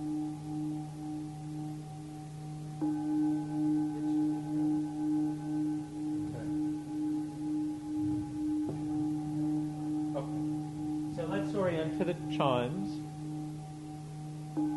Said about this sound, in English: There's the high tone. Next time we'll start breathing in on that high tone. There's the low tone. We're going to breathe out on that.